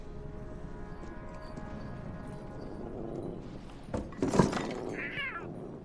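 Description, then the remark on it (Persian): A cat gives a short, high meow near the end, just after a couple of clattering thumps, over a steady low background hum with no one speaking. “چی شده؟ شما تو دنیاتون گربه ندارین؟”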